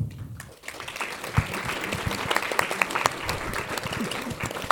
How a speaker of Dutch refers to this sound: Dank u wel. Het applaus is niet alleen voor mij eigenlijk, want het zijn de schrijvers vandaag die in de belangstelling staan.